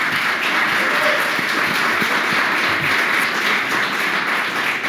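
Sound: audience applause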